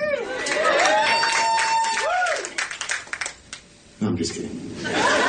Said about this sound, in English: No, I'm just kidding. It's sad when people applaud for just having a date. Wow. It can be inappropriate.